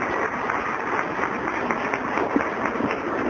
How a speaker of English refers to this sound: Dear God, applaud yourselves. You're wonderful. Thank you.